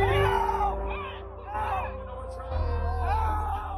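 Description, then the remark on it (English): A dense concert crowd in Houston shouts and screams for help at once around 9:12 p.m., a loud, continuous wall of overlapping voices with strained cries rising above the din, with no break for the whole stretch. “According to a video analysis by NBC News, by 9:12 p.m., people in the crowd could be heard screaming for help.”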